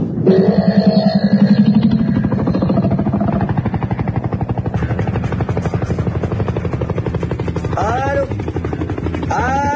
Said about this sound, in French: C'était à bord d'un hélicoptère de l'armée russe.